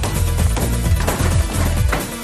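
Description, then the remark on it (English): A minivan engine, just started up, runs at a loud, steady idle, its deep rumble carrying a rapid, rough pulsing throughout, with no voices over it. “All right, see if it starts up. Okay. All right, that sounds good.”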